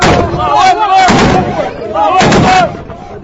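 Loud bursts of celebratory gunfire from anti-Gaddafi fighters in Libya crack out in a few clustered volleys, with a crowd of voices shouting and chanting "God is great" underneath throughout.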